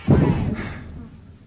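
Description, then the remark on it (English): A heavy door in Moria slams shut once with a deep, booming thud, its low rumble echoing and slowly fading away. “Close the door!”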